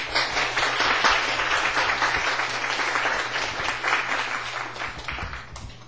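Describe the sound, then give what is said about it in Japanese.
A church audience breaks into sustained applause to welcome a new member, many hands clapping in a dense, steady wash that holds strong for several seconds before tapering slightly toward the end, with no one speaking. “拍手を。”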